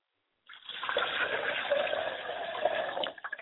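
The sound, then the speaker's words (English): Liquid poured out as a libation in a steady stream for about three seconds, a broad splashing rush that starts abruptly and tapers off at the end, with no voices over it. “I pour libation to the east, and I call on the honorable Elijah Muhammad and Sayashe.”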